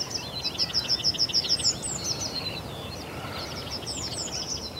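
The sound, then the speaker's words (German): Outdoor birdsong in the Brodowiner Karpaten near Brodowin, Germany, with several birds singing at once: a repeated bright chirping phrase in a steady run, overlapping trills and calls, over a low rustling background. “Und wer durch die Brodowiner Karpaten wandert, wird garantiert mit Vogelkonzerten belohnt, wie sie vor 100 Jahren noch gang und gäbe waren.”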